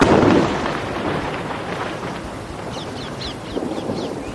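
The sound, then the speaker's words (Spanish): A heavy explosion booms in Gaza at the start, then a deep rumble rolls on and echoes. Faint birds chirp near the end, and no one speaks. “Así suena hoy Gaza. Desde las 6 de la mañana las explosiones han regresado a la franja.”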